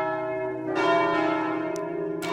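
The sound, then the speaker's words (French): Large cast bronze bells made by the Paccard foundry ring out together, a dense wash of sustained, shimmering tones with overlapping strikes blooming loudly and resonating continuously, no voices present. “Les cloches, mais pas n'importe lesquelles. Elles ont été fabriquées par la fonderie Paccard.”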